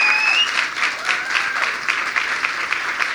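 A crowd breaks into sustained applause, a dense, steady wash of many hands clapping at once with no pauses, fairly loud throughout, plus a brief high whistle near the start.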